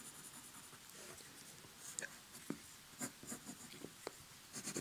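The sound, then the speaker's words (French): Scratchy strokes of a pencil sketching on paper, quick irregular scrapes and taps repeating steadily with no voices over them. “Je crayonne tout de suite beaucoup, beaucoup trop, j'ai envie de dire.”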